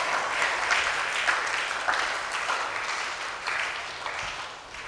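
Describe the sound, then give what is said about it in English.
An audience claps together in a steady, sustained round of applause lasting several seconds, the many hands blending into a dense, even patter with no voices over it. “I thought you'd be clapping it.”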